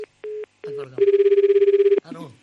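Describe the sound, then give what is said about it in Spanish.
A telephone rings loudly for a call to room 612, with a rapid, trilling bell lasting about a second, preceded by a few short tonal bursts, with voices heard briefly before and after the ring. “¿Me quieres coger el teléfono?”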